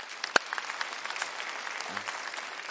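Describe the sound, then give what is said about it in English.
A church audience claps steadily to welcome those watching online, a dense, continuous patter of many hands at moderate loudness with one sharper clap standing out near the start, and no voices heard over it. “As you clap, it's about to get real because here's our pop quiz again.”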